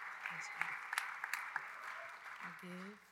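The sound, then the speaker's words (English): An audience in a chapel applauds steadily as students come up to the stage to share stories of their trips, a dense wash of clapping with a few sharper claps standing out, while low voices murmur underneath toward the end. “Yeah, give them a round of applause as they come on up.”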